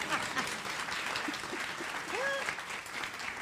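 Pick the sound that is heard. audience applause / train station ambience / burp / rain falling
audience applause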